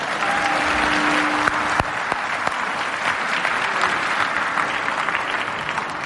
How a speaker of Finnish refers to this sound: Tilaisuuden tuossa aloitti jo äsken Pohjanmaan evankelistakuoro Cecilia Sitomaniemen johtamana. Mitäs jos annettaisiin vielä tälle mahtavalle kuorolle aplodit?